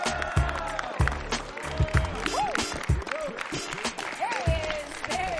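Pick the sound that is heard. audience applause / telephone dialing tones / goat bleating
audience applause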